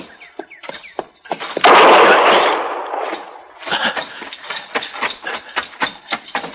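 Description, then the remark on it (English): A single loud gunshot that hits a man in the arm bursts out after a few light clicks, its roar lingering for over a second before fading into a quick, uneven series of sharp knocking impacts. No one speaks. “Now, you've been hit, Chester. Well, he got me in the arm.”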